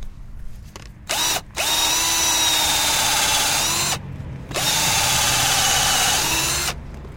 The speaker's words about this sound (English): So, it looks like we've got a good spot right here that's open that would make sure the bucket would hang from. So I'll go ahead and get the drill out and give this guy a shot right here.